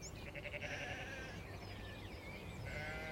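Two wavering sheep bleats, the first long and quavering, the second starting near the end, over a steady outdoor background hiss with no voices.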